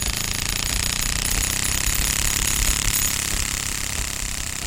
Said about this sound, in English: And, you know, finally, as you really ramp up that card that's in the clothing pin, it makes almost it sound like a lawnmower.